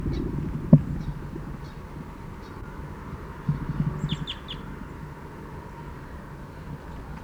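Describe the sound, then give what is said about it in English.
Caged birds give short, sharp, descending fight calls, a quick burst of three standing out among fainter scattered chirps, over a steady low rumble and occasional soft thumps. No one speaks. “Fight calls now by the cage birds.”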